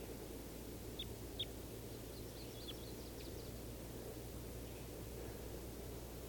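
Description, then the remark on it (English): A female wild bird at the top of a tree gives a few brief, high chirping calls early on, faint against a steady hiss and low droning hum, then falls mostly quiet. No one speaks. “And I think this is the female at the top of the tree that's calling.”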